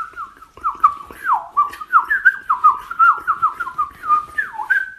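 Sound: eurasian blackcap singing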